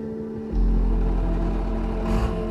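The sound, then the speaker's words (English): A heavy front loader engine idles with a steady low rumble, then surges louder at about half a second and holds a strong, throaty revving drone as it pulls away out of a mine's mechanic shop and down the ramp, with no voices. “Then drives out of the mechanic shop and down the ramp.”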